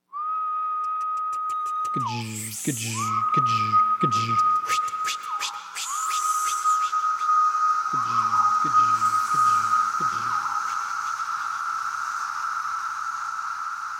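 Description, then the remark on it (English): A chorus of cicadas from three different species: a steady, high-pitched droning whine runs throughout, broken by two bursts of rhythmic pulsing calls and scattered sharp clicking wing flicks. “But the bottom line is, that notorious noise is this jumble of calls and wing flicks from three different species.”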